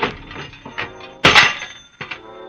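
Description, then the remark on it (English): A telephone is wrenched loose with rattling mechanical clunks and scrapes, building to a loud, harsh crash about halfway through, then a shorter clatter as it comes free. No one speaks. “Well, before I try, I'm going to rip something off. No, not your head. Just the telephone.”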